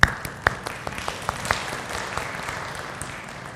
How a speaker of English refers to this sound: And thank you very much for those people who came out for yard sale yesterday. They worked the whole day. Let's just give them an applaud.